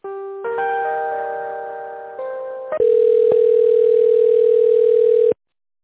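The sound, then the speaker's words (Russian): A telephone line tone during a call transfer: a few layered electronic beeps give way to a steady, continuous ringback-style tone lasting several seconds, then it cuts off abruptly. No one speaks. “Мне с ней соединяли, а она трубочку не берет. Сейчас, минут, еще раз переведу вас.”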